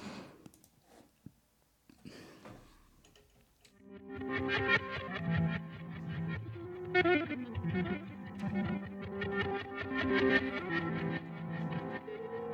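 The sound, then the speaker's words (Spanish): After a few seconds of faint crackles and clicks, a loud music track from an album kicks in with heavily distorted, effects-laden instruments, playing dense and sustained to the end. “Bueno, naujan ninri entzuten ari gara …. Albuma.”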